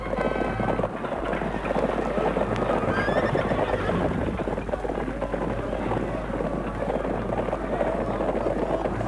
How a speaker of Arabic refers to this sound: وبينما هم على هذه الحال، وإذا بغبار ظهر لهم من بعيد، فلما ارتفع هذا الغبار بان من تحته سوابق الخيل، وهم خالد بن الوليد وجيشه.